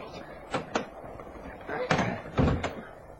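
A handful of sharp clicks and thunks come in irregular bursts as a door is unlocked and pulled open, with faint low murmuring underneath.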